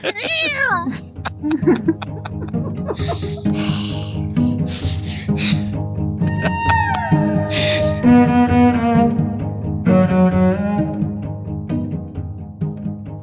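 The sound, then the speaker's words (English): A cat meows repeatedly, loud drawn-out cries rising and falling in pitch one after another, over a steady low background hum. “I wouldn't recommend it, but leave the cat alone.”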